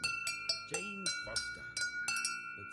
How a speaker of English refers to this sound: Oh, this is wind chime time.